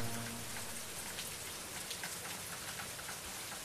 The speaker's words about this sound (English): Listen to the rain around this church and on the roof. People might complain about getting wet in the rain.